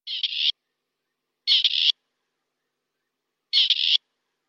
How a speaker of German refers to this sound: Auch relativ bunt, wenn man ihn denn mal sieht, das ist das Rebhuhn.